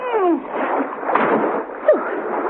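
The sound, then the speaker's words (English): Water splashes and sloshes continuously as a woman heaves herself out of a pool, with a few brief watery swishes standing out. “Mrs. Peel heaved herself out of the water.”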